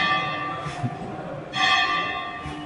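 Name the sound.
bell ringing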